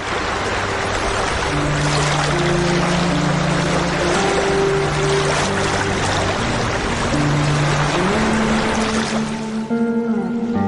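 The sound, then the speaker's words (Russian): The engine of a river boat rented in Tomsk in summer drones steadily over rushing water as it sails north, its pitch shifting slightly near the end, loud and continuous with no voices. “Летом они арендовали в Томске речной катер и поплыли на север.”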